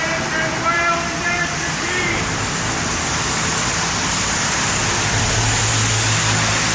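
road traffic passing by

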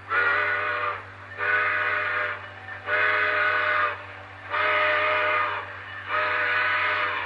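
train pulling out

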